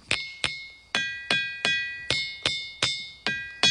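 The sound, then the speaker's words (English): Diabase stones in a ringing rock field being struck with a hammer, about nine sharp blows in a steady, slightly uneven rhythm, each giving a bright, bell-like metallic tone that rings briefly before the next hit. “It may sound like a hammer on an anvil, but it's actually the sound that comes from striking the stones in this unusual rock field.”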